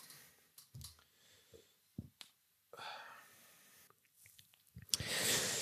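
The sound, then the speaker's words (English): A small sip from a drink: soft wet mouth clicks and a quiet slurp, followed by a couple of audible breaths, with no talking. “Let me just take a little sip here.”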